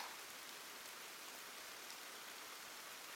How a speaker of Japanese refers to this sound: 私は正直、雨の音って結構好きなんです。しとしとと降る雨は、心を落ち着ける作用がありますからね。